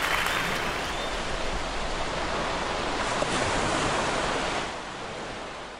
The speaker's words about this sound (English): The ocean was coming in strong there.